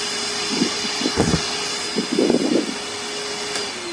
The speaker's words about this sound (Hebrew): יהודה זוכה, זה שואב אבק.